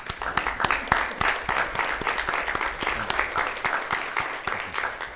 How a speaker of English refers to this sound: We should be clapping for them. Yeah. We still can.